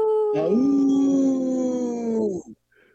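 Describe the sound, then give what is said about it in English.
A single wolf howl rises quickly in pitch, then holds a long, steady, mournful note for about two seconds before breaking off. It sounds loud, with no one talking. “Sorry, Andrew, should have prepped you for the howl.”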